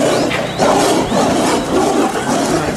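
lion roaring

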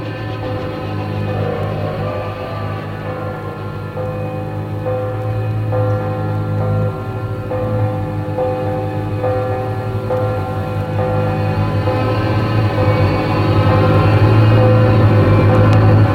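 bell ringing

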